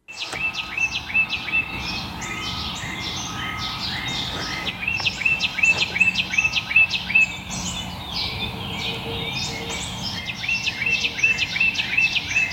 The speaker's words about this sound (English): here's a couple of bird notes